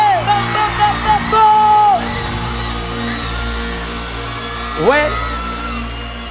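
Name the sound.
audience applause and cheering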